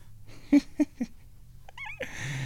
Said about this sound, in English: Uh-oh, here the hell, here comes the cat. Oh, crap. Okay, she's climbing up onto the kitty condo, so maybe she's gonna pretend that I don't exist.